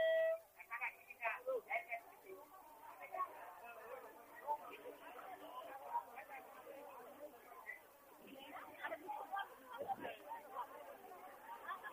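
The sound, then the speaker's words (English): Dense, continuous chatter of a huge crowd of about 10,000 people trying to get on a boat to cross a river, countless overlapping voices blending into a steady murmur that swells and dips, sounding slightly thin and muffled throughout. “It's an ocean of people.”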